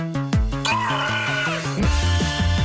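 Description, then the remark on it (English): A manatee gives one squeaky, wavering high-pitched call lasting about a second, over a steady, rhythmic musical backing with a thumping low beat. “Manatee, demanding a pickle. He's very tired of waiting. He's a hungry sea cow.”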